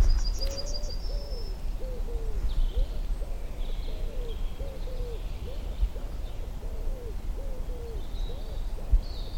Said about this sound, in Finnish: Sepelkyyky puhaltelee.